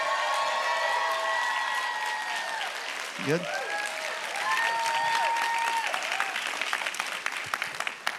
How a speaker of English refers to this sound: I didn't get an applause like that when I came out.